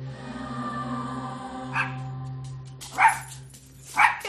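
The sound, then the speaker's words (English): A dog named Fred barks three times, spaced about a second apart, each a short sharp bark at moderate volume over a steady low background hum. “Tim and Angel Hiddingfold Clark are the current owners of Josie's dog, Fred.”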